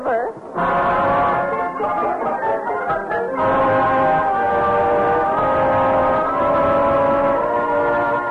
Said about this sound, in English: Who's blowing that whistle?